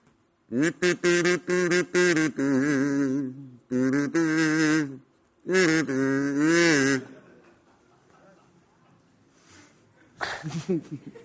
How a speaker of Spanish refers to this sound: Pero te ha costado, pero ha llegado el cazú. Suena. Claro. Suena.